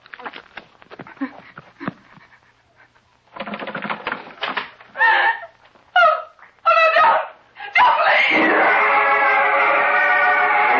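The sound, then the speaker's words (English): A woman screams in terror as her bedroom door opens and she sees a man with a gun: after some scattered clattering and rustling, a few short, strained cries break out, then a long, loud, sustained, piercing scream runs to the end. “The door to her bedroom opens, and she calls out in terror.”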